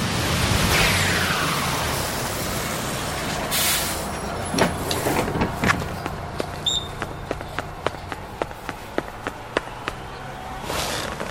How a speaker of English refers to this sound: Now, you jump on this bus, and I'll meet you on the top deck where we can admire the view.